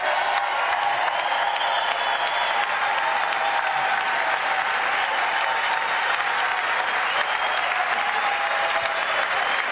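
Sustained, dense applause from a large audience as the President of the United States approaches the dais, a steady wash of clapping that holds at an even, loud level for the whole stretch without pause or speech.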